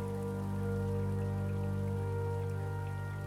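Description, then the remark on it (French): Steady, continuous cold, sticky rain patters on city streets over a low, sustained electric hum, forming an unbroken wet ambience with no voices and no distinct individual drops standing out. “La grande rue clignote, blafarde, passant de la pénombre à l'éclat des lumières roses, brouillée par l'éternelle pluie froide et poisseuse qui couvre la ville.”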